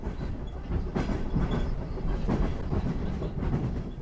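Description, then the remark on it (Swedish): A train rolls steadily along the rails from Tbilisi, Georgia, on toward Baku, its low rumble broken by rhythmic clicks and knocks from the wheels at the joints, fairly loud throughout, with no voices. “Från Tbilisi så rullar sedan tåget vidare ner mot Baku i Kaspiska havet.”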